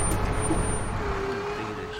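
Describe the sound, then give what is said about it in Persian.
A truck's engine rumbles low and steady as it rolls into a garage and comes to a stop, with a faint whine in the drone and no voices. “نگه میداره. پیاده میشه.”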